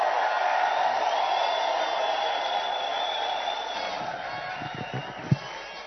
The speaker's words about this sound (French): Est-ce qu'on peut donner des cris de joie de 25 ans?